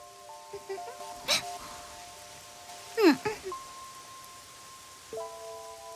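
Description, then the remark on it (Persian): Steady rain falls throughout as a soft, even hiss, with faint held musical tones above it and a few brief louder swishes and thumps. “کریه انگار تو هم چتر نداری”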